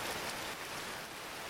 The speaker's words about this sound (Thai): พี่คะฝนตกแล้วน้องเอ่ยขึ้น